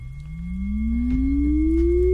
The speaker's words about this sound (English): So also sine wave, maybe something like this.